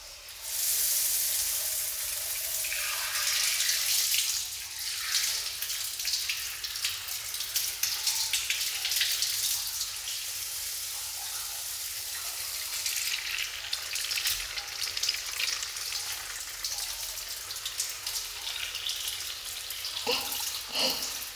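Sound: shower water rinsing hair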